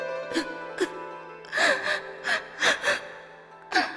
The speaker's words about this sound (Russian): Чего ты плачешь, любимая?